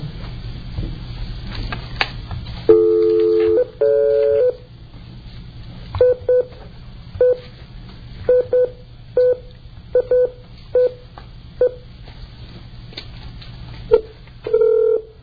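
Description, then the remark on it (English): Touch-tone telephone dialing of a call to the Hilton Garden Inn, Montréal Centreville: two longer dual-pitched tones, then a steady run of about a dozen short, evenly clipped key beeps over a low background hum, with no talking. “And I'd like to, at this time, I'd like at this time to call”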